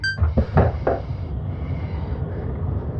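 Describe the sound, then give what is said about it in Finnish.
An outer door opens with a brief tonal beep, then a quick series of three or four heavy mechanical clunks, settling into a steady low rumble and hiss. No one speaks. “Ulko-ovi aukeaa tästä.”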